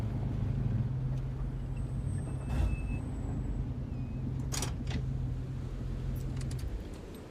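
An SUV engine hums steadily from inside the cabin, with brief bursts of hiss and squeal as it brakes to a stop on a road winding around the base of a hillside bordering the ocean, the low rumble continuing throughout.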